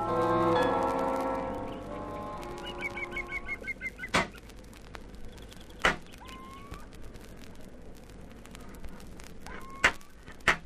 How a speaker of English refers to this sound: What the dickens is that noise? Sounds like somebody hammering on metal.